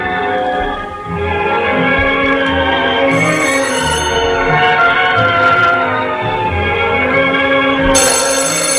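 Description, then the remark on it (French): A telephone rings at home in short, bright bursts that cut in and out over a dense, steady tonal background, loud, with no one speaking. “Chaque fois que l'appareil sonne, il court décrocher pour rien.”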